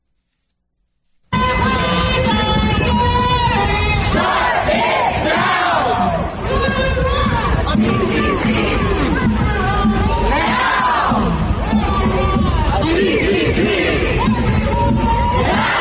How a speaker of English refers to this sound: But they were out there yelling and shouting, and they had a couple members of Congress with them.